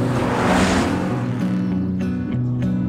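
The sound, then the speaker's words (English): A car engine revs loudly, its deep, throaty drone holding strong with a burst of roar at the start as it accelerates, no voices present. “Well, let's just see what he's got under the hood.”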